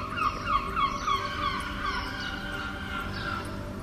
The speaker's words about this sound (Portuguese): O grasnado das gaivotas parece, como dizem agora as pessoas, um pouco bipolar, repousante e agressivo, generoso e pedinchão, épico e anedótico, adequado aos tempos que passamos.